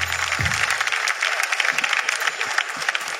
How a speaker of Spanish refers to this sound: Un aplauso para el amigo que repara las grúas. Salud, hermano.